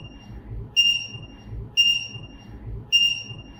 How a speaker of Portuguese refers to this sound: Quando a pessoa usando o aparelho se aproxima muito de outra pessoa usando também esse dispositivo, um bip toca avisando a que a distância segura foi ultrapassada.